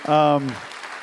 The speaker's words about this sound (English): So anyway, give him a round of applause. You can be seated.